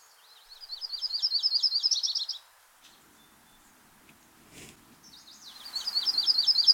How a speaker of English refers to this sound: There's your Butterbutt Warblers. Butterbutt, the fantastic other name for yellow-rumped warbler.